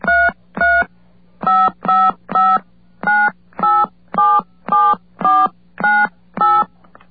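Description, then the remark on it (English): A run of about a dozen touch-tone telephone keypad beeps (DTMF dialing tones), each a short dual-pitched tone, pressed at a steady, slightly uneven pace over a faint low hum, with no talking, as a passcode and then a phone number are entered. “I put in my passcode, and I put in the number I was dialing.”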